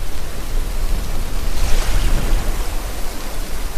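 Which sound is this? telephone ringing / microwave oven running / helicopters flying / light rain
light rain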